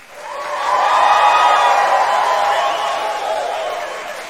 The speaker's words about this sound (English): Give the birthday girl a huge round of applause.